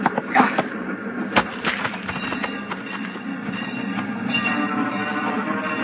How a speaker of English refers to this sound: The train rolls by slowly, and the crossing bell warns that death is here.